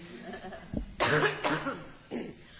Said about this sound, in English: I am healthy now. I'm not contagious at all, but I had the flu for 2 weeks. I was at home and in bed, so the cough came back a little bit today, so I apologize for that.